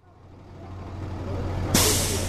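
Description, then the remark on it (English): A yellow school bus rumbles up outside a YMCA shelter in Montreal with a steady low engine drone that gradually grows louder, then lets out a sudden loud hiss of air brakes near the end as it settles to idle. “A yellow school bus pulls up and idles outside a YMCA shelter in Montreal.”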